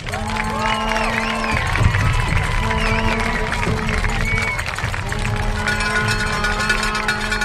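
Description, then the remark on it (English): A crowd applauds and cheers steadily for the BHS Brass Ensemble students at a Blanco ISD band performance, a dense, loud wash of clapping and shouts with a faint sustained tone running underneath. “Please give a big round of applause for these students.”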